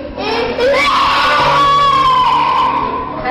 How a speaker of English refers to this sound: People, you know, just screaming and writhing in convulsions.